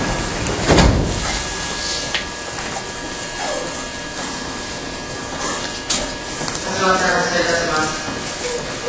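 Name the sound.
train doors sliding shut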